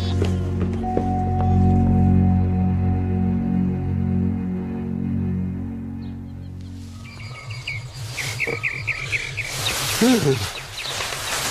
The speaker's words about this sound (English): Birds. Birds? At night? It's morning